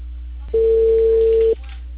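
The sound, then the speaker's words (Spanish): A single loud, steady telephone network tone from the Claro carrier, like a busy signal beep, sounds for about one second over a faint low electrical hum, with no talking. “Este es un mensaje de Claro.”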